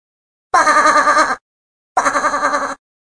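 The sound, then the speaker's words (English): Two loud sheep bleats, each under a second long with a wavering, quavering tone, separated by a short pause of silence. “There's a sheep.”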